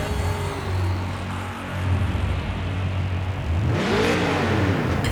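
A car engine idles with a steady low hum, then revs sharply upward and drops back down near the end. It is loud, and no one speaks.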